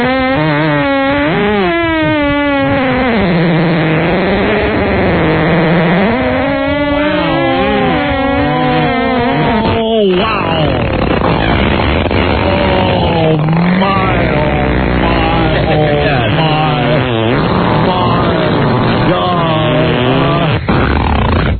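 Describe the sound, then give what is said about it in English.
Loud NASCAR race car engines roar and whine, their pitch sweeping up and down as they rev and pass, followed by a denser, rumbling wash of engine noise. “Who sponsored that NASCAR car for $1, please?”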